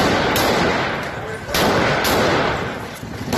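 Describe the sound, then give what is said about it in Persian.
Several sharp gunshots crack out irregularly, a few seconds apart, over a dense, noisy background of a crowd shouting and clamoring, as armed forces of the Nabi Akram IRGC corps of Kermanshah, shouting "Allahu Akbar", fire at protesters in the Kurdish city of Javanrud in western Iran. “مهاجمانی که الله اکبر گویان به سوی معترضان تیراندازی می‌کردند.”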